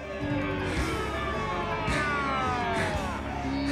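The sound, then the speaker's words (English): A police siren wails with sweeping, rising and falling tones over dense, steady street noise, loud throughout, with faint voices mixed into the background, as a police car with flashing lights pulls up behind a man running along a road. “Eventually, the flashing lights of a police car pull up behind him.”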